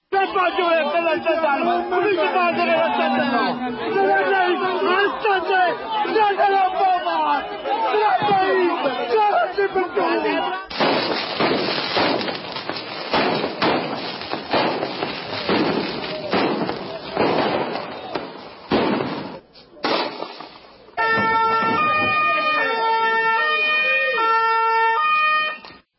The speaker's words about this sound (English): the sounds of what's happening in Italy over a landfill has turned into a nightmare. Take a listen to what it sounded like with the screams and I think some of the other things, the sirens that you can catch in the background.